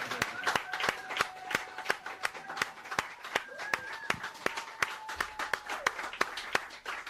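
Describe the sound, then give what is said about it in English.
An audience claps together in a steady, rhythmic beat, sharp regular claps about three per second, while sustained cheering voices ring out over the clapping throughout. “The cheering session's out of the room.”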